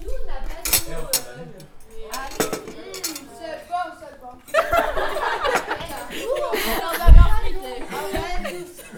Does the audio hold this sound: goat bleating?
no